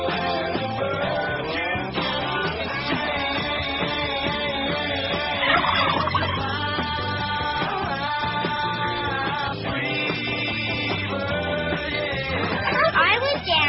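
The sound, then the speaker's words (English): A turkey gobbles repeatedly in loud, warbling bursts that run through the whole stretch, set against a busy, continuous background of other sound. “This is supposed to be the big finale when the turkey jumps through the ring of fire.”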